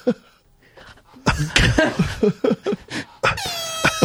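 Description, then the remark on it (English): An arrow sound effect: a string of sharp, loud whooshing bursts followed by a bright, whistling tone that slides down in pitch and rings briefly, with no talking. “That's an arrow.”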